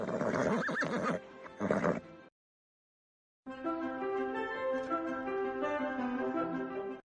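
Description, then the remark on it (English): A horse of the Fort Worth mounted police neighs loudly for about two seconds at a downtown fountain in Fort Worth, Texas, followed by a brief silence and then a longer stretch of steady, tonal sound. “Once again, water cascades into curved basins, and thirsty horses can get a drink downtown. This time, they're ridden by Fort Worth's mounted police.”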